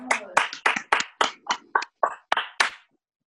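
A brief round of applause: about ten sharp hand claps at a steady, fairly quick pace, then the clapping stops and silence follows.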